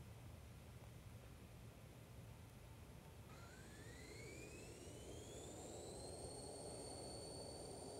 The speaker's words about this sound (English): Right here, I've already got Unity running. We'll hit play here and take off in my airplane inside of Unity.